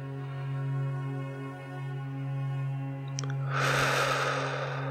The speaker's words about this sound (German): Wir atmen ein